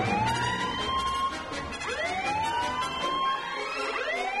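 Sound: sirens blaring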